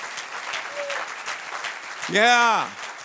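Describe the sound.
Steady crowd applause given to Christ fills the whole clip, a dense wash of clapping, and near the end a single loud voice lets out a rising-and-falling shout over it.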